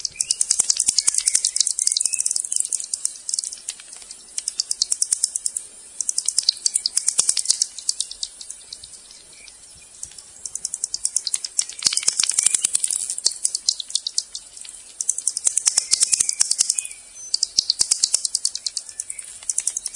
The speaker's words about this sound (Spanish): Pero curiosamente no. Muchos animales y mamíferos, sobre todo murciélagos, emiten sonidos como este, miren.